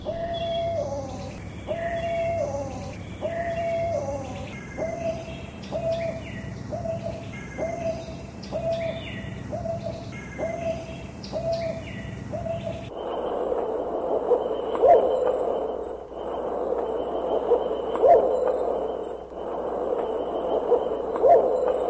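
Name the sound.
owl hooting call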